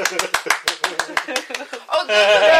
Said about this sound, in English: Thank you for applauding my loneliness.